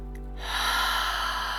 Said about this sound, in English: Beautiful, honoring, freeing and flowing, allowing, curing, healing, release, breathing in together.